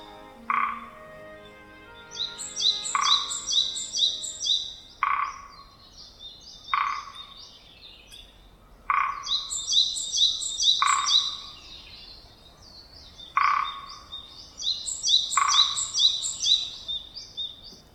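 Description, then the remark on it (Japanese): A Japanese pygmy woodpecker taps on a tree in the forest surrounding Meiji Jingu shrine in Harajuku, Tokyo, in about eight short, resonant bursts spaced a few seconds apart, while other wild birds sing high, busy trills in the background. “森の中から不思議な音が聞こえてきました。コゲラが木を叩く音です。”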